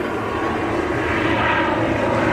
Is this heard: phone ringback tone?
no